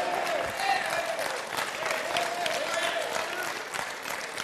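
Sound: audience clapping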